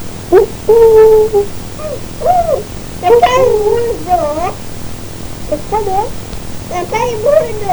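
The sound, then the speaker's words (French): A young child imitates an owl's hoot with several high, wavering vocal calls in short bursts, with brief pauses between them. “Comment il fait le hibou?”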